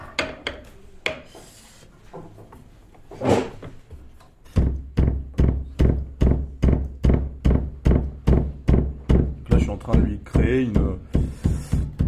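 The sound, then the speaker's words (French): A piano hammer's felt being needled: a few scattered soft pricks, then a steady run of dull, muffled thuds at roughly three per second, each with a short scratchy edge. “Là, je vais les réveiller un peu avec des aiguilles.”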